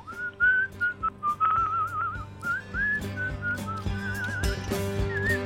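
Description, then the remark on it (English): Someone whistles a flowing melody in clear, steady phrases with a slight wavering vibrato, over a low, soft musical backing. “Can you whistle as I slowly turn you down? Can you whistle a tune?”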